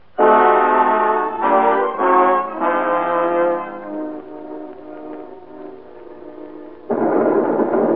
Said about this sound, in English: I guess it must be the rain. Look at it. Like a curtain, blacking out the rest of the world.